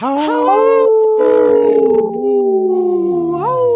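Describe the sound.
A person howls like a wolf in one long, loud, sustained wail that slides slowly downward in pitch before rising again at the end, with no talking.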